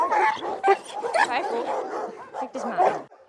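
Several dogs bark and yip continuously at an animal shelter in Lübeck, a dense chorus of overlapping barks with occasional whimpers, moderately loud.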